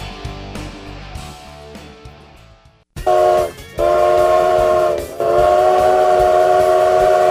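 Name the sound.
train arriving with whistle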